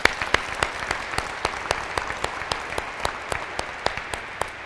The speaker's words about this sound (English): He's 50 years a priest this year and has not been able to go out a lot because of COVID and restrictions and stuff, but he might be watching us, so let's give him all a shout out and an applause.